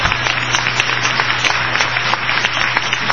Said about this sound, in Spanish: Miren, los vecinos le aplauden.